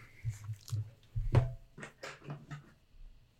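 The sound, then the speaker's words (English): An animal chews and gnaws on something, with a run of irregular crunchy bites and soft thumps lasting a few seconds, one bite louder than the rest, and no talking. “No. You can't chew on these.”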